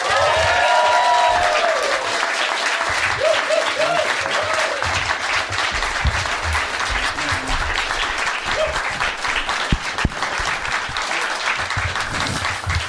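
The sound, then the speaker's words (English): Loud, sustained applause from an audience welcoming the comedy group Auntie Donna to the stage fills the whole stretch, dense clapping with some whoops and cheers mixed in near the start. “Please welcome to the stage with enormous applause, Auntie Donna.”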